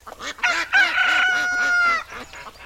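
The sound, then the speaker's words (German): Early in the morning outside a window, a loud, drawn-out rooster crow rings out for over a second, with a run of short, evenly spaced honking calls of ducks quacking repeating underneath and around it. No one speaks. “Am frühen Morgen ein Krähen und Schnattern vor dem Fenster je sie weckt.”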